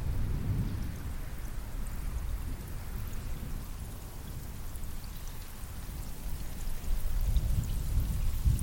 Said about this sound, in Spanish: Miras al cielo y ves unas nubes enormes, oscuras, cargadas de agua. Los sonidos de truenos y relámpagos te ensordecen. Comienza a llover con intensidad.